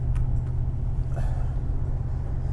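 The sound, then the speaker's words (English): Steady low rumble of a little green truck's engine and snow tires heard from inside the cab while driving around snowy Vancouver, a constant droning road noise with faint rattles and hiss above it. “You're going to hear some different sounds today because we're driving around in the little green truck with a big heart because it's been snowing in Vancouver.”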